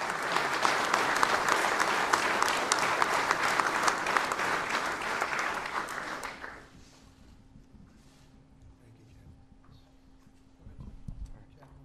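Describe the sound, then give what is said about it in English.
Sustained, dense applause from a large ceremony audience, President Trump among them, applauding David Bellavia, fills the first six seconds, then fades out, leaving quiet with a low steady hum and faint rustling. “President Trump among those applauding David Bellavia.”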